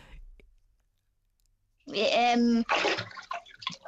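Water sloshes and splashes in a bathtub where a person is bathing with their sister, after a quiet start, with a short burst of vocal sound mixed in and a few lighter splashes trailing off at the end.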